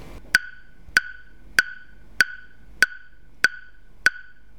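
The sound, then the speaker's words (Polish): A phone timer alarm set for one minute goes off: seven short, sharp electronic beeps repeat at a steady, even pace, each with a bright mid-high ring. No one speaks over it. “Za chwilę otrzymamy informację, że ten czas się skończył.”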